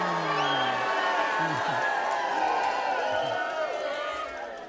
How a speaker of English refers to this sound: The men of Israel and Judah were on their feet, shouting, "Israel, shout, ooh, ooh, ooh."